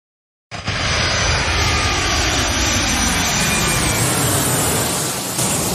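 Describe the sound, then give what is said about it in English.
An airplane taking-off sound effect played coming off an advertisement: after a brief silence, a loud, broad engine roar bursts in and holds steady, with a faint whine drifting downward inside it. No one speaks. “It's the rare on the clock sound effect coming off of an advertisement.”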